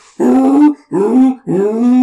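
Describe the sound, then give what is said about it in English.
Three loud, braying screams in quick succession, each a harsh, harmonic cry that rises in pitch, separated by short gaps, like a voice imitating Tusken Raiders jumping up to attack. “Then you hear screams as the Tusken Raiders jump up in front of you.”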